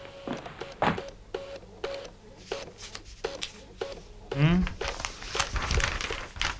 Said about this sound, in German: Schmeiß doch mal den Drucker an